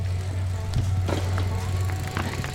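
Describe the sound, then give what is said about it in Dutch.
Three cyclocross riders roll past on bicycles over a small bridge on a fast course at the Autotron grounds, with a steady low rumble and scattered clattering knocks as the tyres cross the bridge deck. The sound is continuous, with no voices. “En zo rijdt het drietal over het terrein van Autotron. Het is een snel parcours met hier en daar een klein heuveltje of bruggetje zoals hier.”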